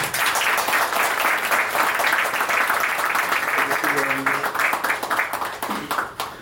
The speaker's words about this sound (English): So first, if you can give a round of applause